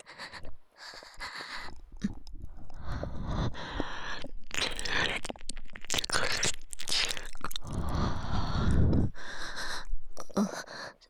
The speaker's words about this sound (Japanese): すみません、つい息が荒くなってしまって、吐息が耳に かかってしまいます。